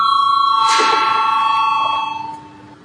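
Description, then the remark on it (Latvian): A parliamentary voting bell rings steadily for about two seconds to call a vote on proposal number 21, a bright sustained metallic tone with a brief clang near the start, then it stops abruptly. No one speaks. “Lūdzu, zvanu, balsosim par 21. Deputāta Valaiņa priekšlikumu.”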